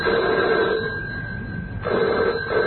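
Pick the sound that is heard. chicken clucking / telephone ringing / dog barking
telephone ringing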